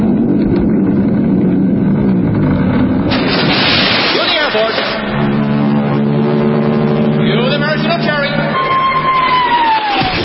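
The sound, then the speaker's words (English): A loud, rumbling rush of noise as a 700-foot mountain of whipped cream rolls like an avalanche into Lake Michigan, drained and filled with hot chocolate, then the steady droning hum of a Royal Canadian Air Force aircraft flying over towing a 10-ton maraschino cherry, with a whistling tone gliding downward and a crowd of 25,000 extras cheering. “I want the 700-foot mountain of whipped cream to roll into Lake Michigan, which has been drained and filled with hot chocolate”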